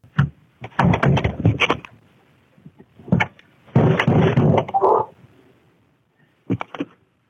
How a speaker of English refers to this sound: So do we want to start right off the bat with playing the audio from the doorbell camera at our friend's house, or do you want to lead into it? Let's set the scene here. This is late December 2025 when a friend of ours had a knock at his door.